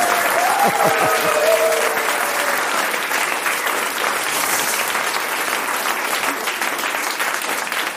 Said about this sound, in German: Ja, vielen Dank für diesen frenetischen, überfallartigen Applaus. Herzlich willkommen hier im Wiesbadener Hoftheater in Paris.